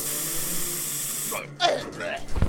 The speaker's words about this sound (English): It looks like a jar hooked up to a spray gun? Ah, fantastic. Rum punch for everyone.